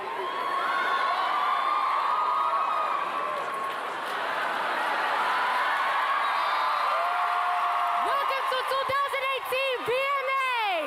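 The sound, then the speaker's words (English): A loud, dense concert crowd roars and cheers continuously, with shouts and whoops rising above the wash of voices, then rhythmic bursts of high whistling or shrieks near the end. “Crowd was rough.”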